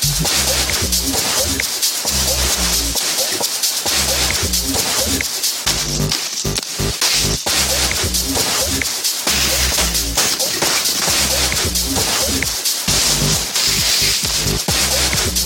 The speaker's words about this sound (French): Ouais, là, il y a des bruits de ski, de snowboard, de patins à glace. Ils avaient fait ce mix pour les Jeux Olympiques de Vancouver au début de l'année.